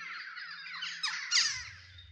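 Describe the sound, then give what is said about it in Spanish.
A dense chorus of parakeets and macaws squawking and chattering at once, shrill overlapping calls that swell louder near the end, with a low hum underneath. “Pericos y guacamayas.”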